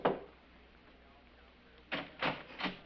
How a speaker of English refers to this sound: Then there was a knock at the door.